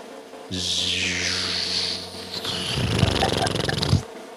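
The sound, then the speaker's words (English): A voice attempts a drum roll with the mouth, producing a low, buzzing, fart-like rasp that lasts about three and a half seconds and turns more sputtering and rattly toward the end. “It sounded more like a fart, and that maybe that's deserving, considering who I'm introducing.”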